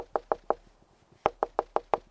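Woodpecker pecking a hole in the wall of Tom Winowski's house, heard from inside the house: three sharp, hollow knocks, a short pause, then a faster run of seven loud taps, with no voices.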